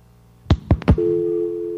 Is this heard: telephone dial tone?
yes